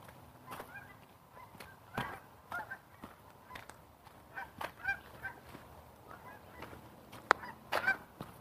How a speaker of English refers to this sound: I don't know if you can hear the geese or not.